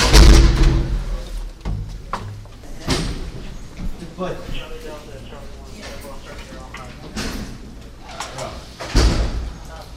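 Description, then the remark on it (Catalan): Heavy metal prison doors are slid open and clanged shut several times by a low-ranking soldier, with loud booming impacts at the start, around three seconds and near the end, echoing amid faint background voices. “un militar de baixa graduació ens precedeix i va obrint portes a preu fet”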